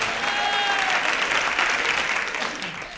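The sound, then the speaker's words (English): A crowd applauds steadily for a few seconds, a dense wash of clapping that holds its level before tapering slightly at the end, with no voices over it. “Pauses for audience applause.”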